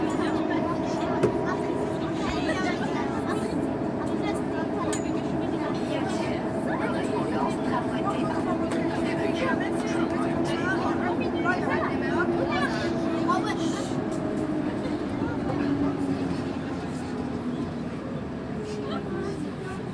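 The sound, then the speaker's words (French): A metro train in Lyon rumbles steadily through a subway, with a constant low drone and mechanical whine, while a crowd's murmured chatter mixes into the background throughout. “Les bruits du métro.”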